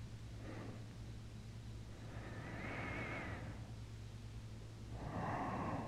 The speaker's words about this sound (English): Just listen to my breathing.